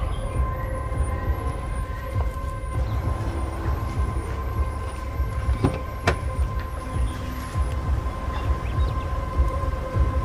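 A car engine rumbles steadily as the vehicle pulls up at a garden and comes to a stop, with a faint, rapid series of high chirps repeating above the low hum; a woman then gets out of the car.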